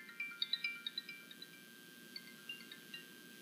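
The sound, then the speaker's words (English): A quick series of high, bright electronic chimes rings out in an uneven burst, a smartwatch ringing during a sermon, fairly quiet against a low hum with no talking. “I didn't even think my watch would ring.”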